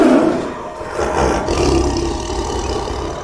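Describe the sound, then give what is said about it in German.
A tiger roars loudly, a deep rumbling growl that swells and holds for several seconds, raw and throaty, with no voices over it. “Welches Tier suchen wir? Ich sag es dir. Den Tiger.”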